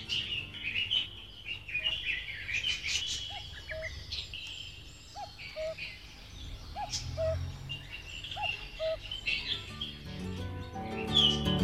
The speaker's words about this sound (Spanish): En la tranquilidad de las mañanas aumentan las posibilidades de avistamiento y escuchar el maravilloso canto de todos los pájaros.